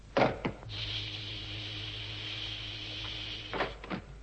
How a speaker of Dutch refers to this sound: Nou, ik hoop maar dat die Marsman, of wat dat dan ook mag zijn, dat die kerels niet horen dat die deur geopend wordt. Ja, als ze dat buiten kunnen horen, dan moeten ze beslist kattenoren hebben.